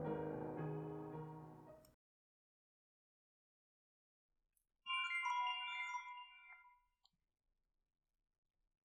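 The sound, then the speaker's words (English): A phone's text message alert chimes for about two seconds as a bright, melodic run of tones, clear, after a pause that follows a brief burst of low, dense sound. “I wanted to turn my ringer off my phone. That's what the fuck I should have done before I started this.”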